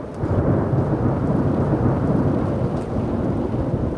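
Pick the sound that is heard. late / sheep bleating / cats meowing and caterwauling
late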